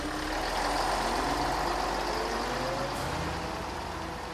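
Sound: bus engine running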